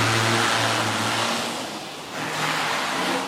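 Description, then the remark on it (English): A white test car's engine revs loudly as it reverses and screeches out of a garage onto the roads of Singapore, a steady harsh roar with a humming engine tone that dips briefly and then surges again, with no voices. “A garage door opens. And a white test car reverses and screeches its way out onto the roads of Singapore.”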